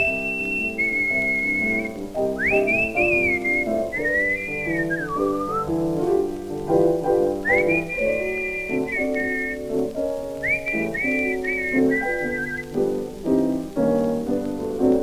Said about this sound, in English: Well, whistle it then.